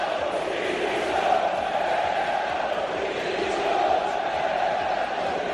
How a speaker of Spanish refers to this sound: Hoy en el Pizjuán se han escuchado cánticos de Pepe Castro dimisión.